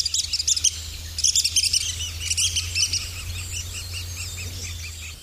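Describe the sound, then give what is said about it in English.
Red-cockaded woodpecker calls on the Ouachita National Forest: clusters of high, squeaky chirps repeat in quick bursts over a steady low hum and faint insect buzz. “The sound of red-cockaded woodpeckers on the Ouachita National Forest, recorded by Joe Neal, who's a retired USDA Forest Service wildlife biologist.”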